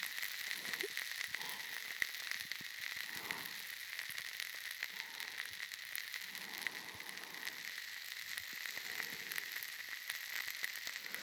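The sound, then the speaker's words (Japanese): A steady carbonated fizz of countless tiny pops and crackles, bright and hissy, continuing evenly throughout with no voices. “ほら、頭の中がじゅわじゅわってはじけてるみたい。脳みそ炭酸に浸してるみたいでしょ。”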